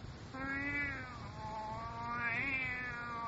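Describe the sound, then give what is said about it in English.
A white tomcat, crouching in the lower boughs of an ash tree and peering into a hollow in the trunk, gives a long, drawn-out meow, then a second wavering, rising-and-falling cry, both fairly loud with no talking. “Oh, well now, Kitty, what do you see there inside the ash?”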